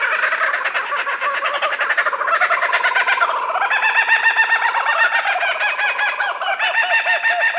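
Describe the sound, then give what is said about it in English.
Laughing kookaburras of Australia cackle loudly and without pause, their rapid, rising and falling chuckles overlapping into a raucous chorus that fills the whole recording, with no other voices. “This oddly familiar, crazed laughter belongs to the laughing kookaburra of Australia.”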